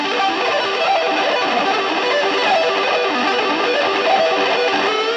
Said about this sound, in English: Using distortion with the ebow yields interesting results. That sounds more like a regular pick attack, yet retains those rapid-fire arpeggios.